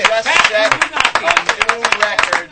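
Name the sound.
people clapping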